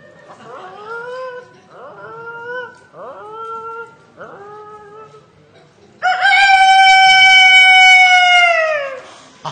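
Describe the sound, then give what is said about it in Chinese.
A person imitates a rooster: four short, bright clucking calls in a steady rhythm, followed by one loud, long, high crow that holds for about three seconds before breaking off. “今天呢，给大伙儿简单的学一样 啊， 学一个大公鸡。”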